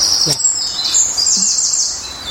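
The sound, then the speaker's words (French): A bird sings a high, bright song that ends in a run of quick, repeated call notes, clear over a soft background hiss. “Et il se termine par quick, quick, quick.”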